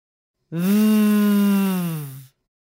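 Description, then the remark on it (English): A voice holds a single buzzing "vvv" sound for nearly two seconds, steady and fairly loud, its pitch dipping slightly at the end, imitating a humming bee with nothing else around it. It demonstrates the voiced V sound, made with the bottom lip against the teeth while forcing air out, in a pronunciation lesson. “Have a go holding this sound for a few seconds and humming like a bee.”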